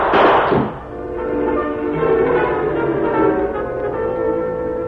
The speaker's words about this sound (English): Finally, he saw the door of the shack open. He immediately opened fire.